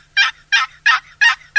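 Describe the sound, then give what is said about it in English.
A series of five evenly spaced, raspy yelps from a wooden box call imitating a turkey, loud, with short silent gaps between each note. “If you can just learn the basic yelp and something as easy to use as a box call, you can call turkeys during the mating season.”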